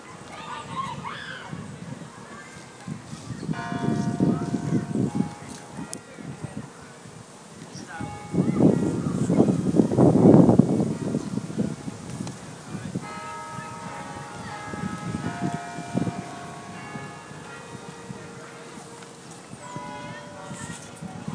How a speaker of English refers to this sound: I'm outside Evesham's Abbey, and I reckon the bell ringers are playing Danny Boy. If I point the mic over as far as I can towards them, we'll have a listen.